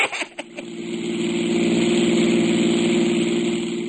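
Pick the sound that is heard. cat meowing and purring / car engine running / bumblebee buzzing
car engine running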